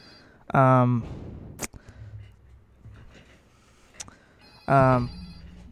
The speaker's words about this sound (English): Just a minute. Sorry, getting a phone call there.